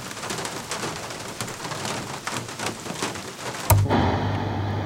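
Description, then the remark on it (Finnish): Steady rain hisses across the whole recording with scattered taps and patters, then cuts off abruptly near the end into a low, steady hum. No one speaks. “Loputonta sadetta.”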